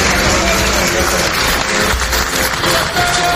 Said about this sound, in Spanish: Con aplausos y gritos de Viva Ucrania